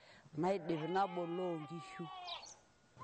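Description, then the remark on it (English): A single sheep from a herder's flock in Kiserian lets out a long, wavering bleat lasting about two seconds, loud, with a quavering nasal tone that trails off into quiet. “I then check on the sheep's health, and I tend to the sickly ones.”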